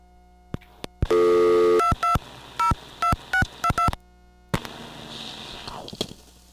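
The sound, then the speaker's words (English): A few handset clicks on a payphone in Boston, then a brief dial tone followed by a quick run of touch-tone beeps as the ANAC number is keyed in, ending in a soft line hiss. “I like to call the ANAC to find out what it is.”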